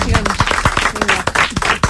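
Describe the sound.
An audience breaks into applause, a dense, uneven patter of many hands clapping at a steady loudness for two seconds, with some voices mixed in underneath.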